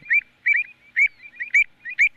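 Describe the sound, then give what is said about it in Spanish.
A colonial bird gives a quick series of harsh, agitated protest calls, about five sharp bursts in steady succession, fairly loud with no talking. “Esto lo suelen hacer las colonias. Sí. Esto normalmente es protesta.”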